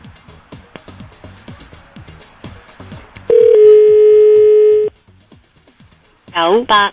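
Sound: telephone call tone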